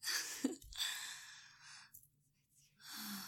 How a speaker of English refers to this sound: How I gasp a little when my lips swirl around your shaft.